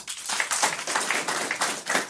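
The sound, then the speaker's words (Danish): Scattered applause from a few audience members, a handful of people clapping unevenly for about two seconds, moderately loud, with no talking. “Er der nogen her, hvor mange herinde er bange for at dø? Prøv at klappe en gang. Det var ikke mange.”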